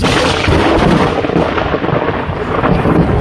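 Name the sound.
thunder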